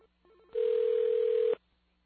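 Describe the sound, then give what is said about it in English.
A telephone rings back with a single steady electronic tone lasting about a second, preceded by faint stepped beeps, heard on its own with no talking. “Oh, wait a minute. It's ringing back. It's ringing back.”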